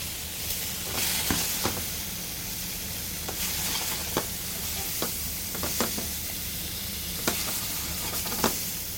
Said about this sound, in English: Meanwhile, while is that going, I'm gonna start cooking the steak. So nice hot pan.